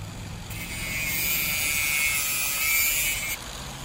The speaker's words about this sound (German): Mit einer Flex genügen 2 Sekunden für einen Fahrradschluss. Bei Metallketten vielleicht 15. Aber die sind auch kein Problem. Also die ganz dünnen, die gehen innerhalb von einer Sekunde weg.